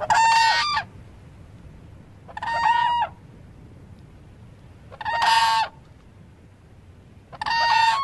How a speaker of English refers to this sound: That's the whoop sound of the whooping crane, Ann? That's an alarm call.